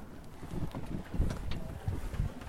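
Soft, steady light wind of about 2 metres per second outdoors on the water at the start of a sailboat race, with low buffeting gusts against the microphone and faint irregular knocks, fairly quiet throughout.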